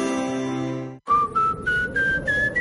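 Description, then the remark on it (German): A steady harmonic tone cuts off, then a thin whistle of wind through a leaky front door rises step by step in five or six short, close bursts, with no talking. “Durch ihre Haustür pfeift's, dann ist sie wohl nicht ganz dicht.”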